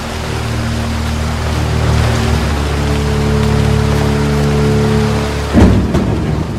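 Steady rain pours down in a dense, continuous hiss, with a low rumble of thunder beneath and a sharper crack near the end. No voices are heard.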